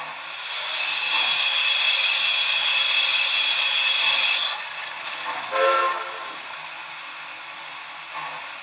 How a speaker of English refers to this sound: Now arriving from New York on track 1, train number 1, the National Limited.